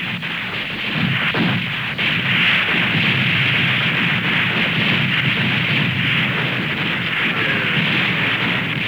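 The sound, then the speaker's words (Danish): Heavy naval cannon fire from warships, the Lützow opening fire and English Admiral Beatty's ships returning it, booms amid a dense, continuous roar of battle noise, with a few sharper blasts standing out early on; loud and sustained throughout, with no voices. “Den engelske admiral Beattys skibe besvarer ilden, men i en lidt ufordelagtig position kan de ikke benytte alle deres kanoner.”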